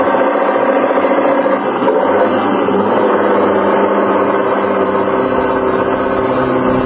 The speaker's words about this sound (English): Watch out for this truck. Yeah, he's pounding to make the hill. They always do coming across the bridge.